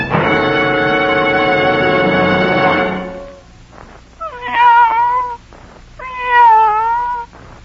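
A cat lets out a long, drawn-out yowl lasting about three seconds, then two shorter wavering meows after brief pauses, loud with no one talking.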